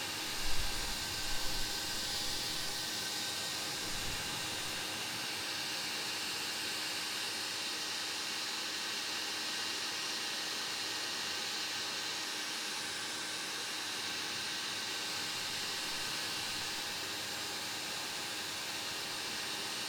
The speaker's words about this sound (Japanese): ドライヤーも終わりです。